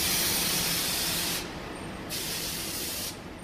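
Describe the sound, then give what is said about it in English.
Machinery at the Fedrigoni paper mill in Verona, Italy, turning raw paper pulp into paper, hisses steadily with a loud, dense wash of noise. The bright upper hiss cuts out twice, briefly leaving a duller rushing roar. No voices. “At the Fedrigoni paper mill in Verona, they use machines that basically operate the same way as when the company was founded back in 1888, turning raw paper pulp into high-class paper products sought after by clients around the world.”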